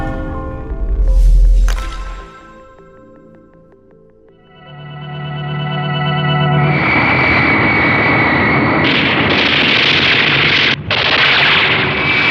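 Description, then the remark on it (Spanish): A deep boom rumbles, then an attacking fighter jet's roar swells into loud, sustained machine-gun fire with bullets whistling almost at the cockpit of an intercontinental jet, a dense barrage that briefly cuts out just before the end. No voices. “El jet de combate se lanza en posición de ataque, haciendo funcionar sus ametralladoras. Las balas silban peligrosamente, casi tocando la cabina del jet intercontinental.”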